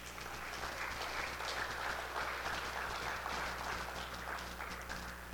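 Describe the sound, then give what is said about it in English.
A crowd claps steadily for several seconds, a dense, even patter of many hands at moderate volume with no one speaking. “That's worth a clap, I think.”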